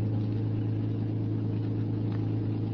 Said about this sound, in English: I got in the back of the car and lay there on the floor and waited. Finally, they came out. The car started.